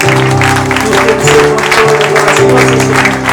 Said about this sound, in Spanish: Vamos a dar un aplauso, Señor.